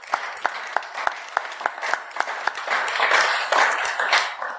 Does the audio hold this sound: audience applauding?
yes